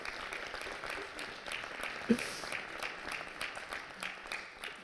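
Steady applause from an audience congratulating an outgoing office holder for past work, a dense, even patter of many hands clapping at moderate loudness, with a brief sharper sound partway through.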